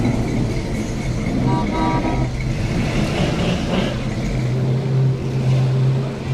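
An all-original straight-six car engine idles steadily at a car show, a deep continuous rumble with a brief higher tonal whine partway through, over a busy outdoor background.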